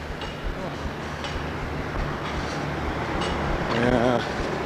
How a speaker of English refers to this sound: Well, still walking. Traffic is going by, noisy, and what time is it now?